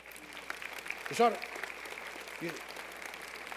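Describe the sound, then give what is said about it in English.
An audience claps steadily in a dense, continuous wash of hand claps, with a brief voice ringing out over it around the middle and another short vocal sound soon after. “Sit down. Clap your hand.”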